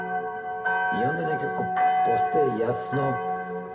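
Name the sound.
church bells ringing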